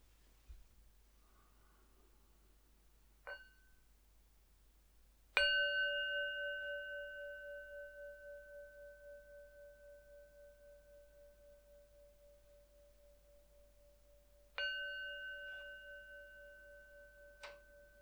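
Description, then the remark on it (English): A meditation bell is struck three times in near silence: a soft, brief first tap, then two full, clear strikes whose bright, layered tones ring out and fade slowly over many seconds. “It'll start with three sounds of the bell, and I'll do a very quick settling and introduction.”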